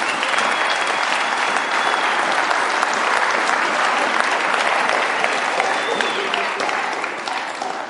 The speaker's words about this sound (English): Well, Dobbin, thank you very much. Off you trot. Let's give Dobbin a big round of applause.